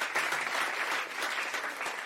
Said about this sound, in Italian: Era un applauso. E di solito l'applauso si fa alla fine. A meno che non fosse un applauso di intermezzo o un applauso di incoraggiamento.